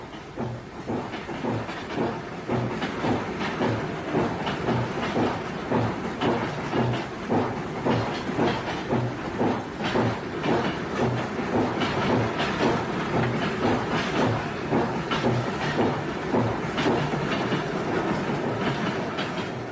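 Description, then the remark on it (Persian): A train rolls slowly along a newly built section of the Nanjiang railway, where gravel has not yet been laid under the sleepers, its wheels clattering in a steady, repeating clickety-clack over rail joints, with a continuous rumble and faint hiss underneath. No one speaks. “تا زمانی که شن و سنگ در زیر تراورس ها نریختن، قطار قادر نیست با سرعت لازم به حرکت ادامه دهد.”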